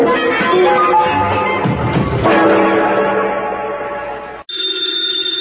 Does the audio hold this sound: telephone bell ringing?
yes